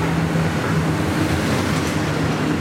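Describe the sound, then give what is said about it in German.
A night train from Venice, bound for Paris, rumbles steadily as it rolls into the station at Brig, Switzerland, a continuous broad roar of wheels and carriages with a low hum underneath, even in loudness, with no voices. “14:45, der Nachtzug aus Venedig fährt in Brieg ein.”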